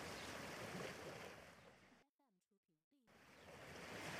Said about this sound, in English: Hello, Mom. We're having fun at the beach.